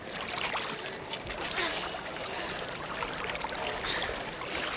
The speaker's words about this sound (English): A second time the water is being poured upon the wood and offering.